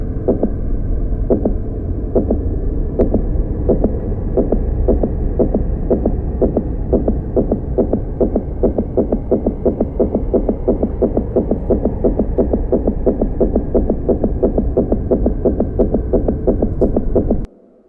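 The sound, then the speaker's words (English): A steady, rhythmic heartbeat of a player focused on a deciding final game thumps continuously over a low droning hum, loud, with evenly spaced beats throughout before cutting off abruptly at the end. “the reality melted around him, and all he was aware of was the game and his own heartbeat.”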